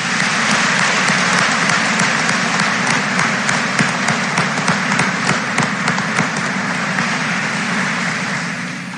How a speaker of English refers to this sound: Please join me in giving these students a round of applause.